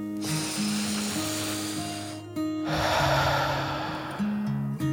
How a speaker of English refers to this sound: As Dragon reached the cave entrance, the first drops of rain splashed down to the earth.